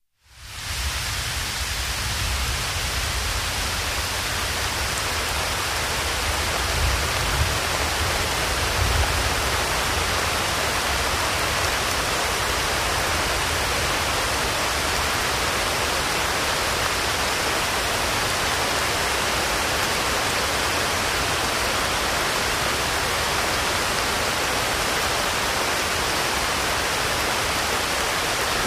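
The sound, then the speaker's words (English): A dense, steady hiss of heavy rain pours without a break, loud, with a faint low rumble underneath and no voices. “It's really raining.”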